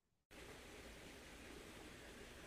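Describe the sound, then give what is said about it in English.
A steady, full roar of rushing water from a waterfall starts abruptly after a brief quiet moment and holds at a constant, loud level with no voices. “Hear that waterfall? I wanted to have the waterfall sound for you.”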